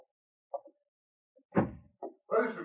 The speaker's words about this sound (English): Just the door, it's broken. The wind blew it open.